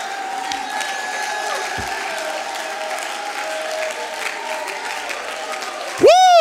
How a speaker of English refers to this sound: Some of you are still clapping your hands with your mouth closed. Oh, clap your hands, oh ye people, and shout, shout, shout unto God.